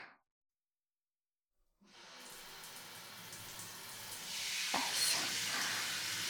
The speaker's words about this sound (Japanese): 体、綺麗になりましたね。頭はタオルじゃ無理なので、シャワーしましょうか。